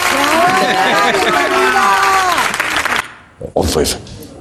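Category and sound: crowd, applause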